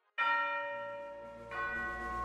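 A doorbell chimes twice, a bright ringing tone followed by a second strike about a second later, both ringing out and lingering clearly with no voices.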